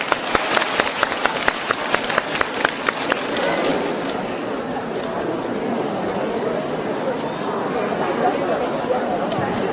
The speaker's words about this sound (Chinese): 大家掌声欢迎，谢谢。